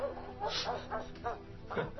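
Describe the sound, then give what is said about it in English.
A person imitates a dog far away in a basement, producing muffled, hollow yips and barks in a quick irregular series, sounding faint and boxed-in. “He's far away and in a basement.”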